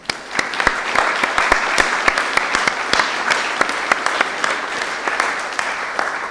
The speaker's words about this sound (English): So let's give ourselves a round of applause. This is awesome.